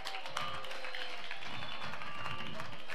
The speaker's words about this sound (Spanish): Bonavara, un fuerte aplauso para Javi Reina, un monstruo.